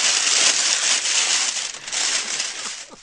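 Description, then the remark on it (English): A compostable Frito-Lay Sun Chips bag made of a new polymer is crinkled loudly and continuously, a harsh, dense crackling that stays intense for the whole stretch, with no voices. “Frito-Lay says that loud crumple comes from a new polymer, but the company is working on a quieter packaging solution.”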